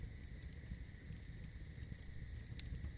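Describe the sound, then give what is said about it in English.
A campfire crackles steadily with scattered sharp pops over a low, continuous rumble of burning, even in level, with no voices. “But for now, just continue to enjoy the campfire and all the surroundings as you continue to relax more and more.”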